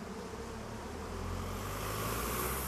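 Bees hum steadily in the monastery garden of the Elisabethine sisters in Klagenfurt, a continuous buzzing, while a soft wash of city traffic rumbles underneath throughout.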